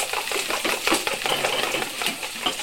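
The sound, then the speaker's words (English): Busy kitchen clatter as a mother cooks, with metal utensils scraping and clinking against pots in a quick, irregular rhythm, fairly loud, with no voices. “This is how my mother cooks.”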